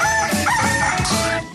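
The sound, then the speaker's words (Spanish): A rooster crows loudly, one long drawn-out cock-a-doodle-doo filling the whole moment with no voices around it; it is the rooster call of the radio station Radioactiva 97.9 for the weekend, on Saturdays at 8 in the morning. “El gallo de Radioactiva, fin de semana.”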